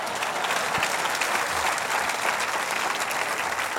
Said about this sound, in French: J'aimerais te dire, voulez-vous l'applaudir avant qu'il meure?